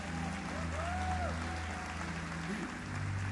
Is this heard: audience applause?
yes